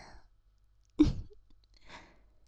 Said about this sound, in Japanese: エミシア様の生あったかい息遣いも感じるでしょ。 そうよね。